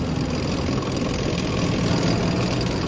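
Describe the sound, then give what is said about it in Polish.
A small tank engine runs steadily as the tank puffs blue smoke from its exhaust pipe and speeds up, a dense, rumbling drone with a rough mechanical texture, loud, holding an even level throughout with no voices. “Niewielki czołg wypuścił błękitny dym z rury wydechowej. Zwiększył szybkość.”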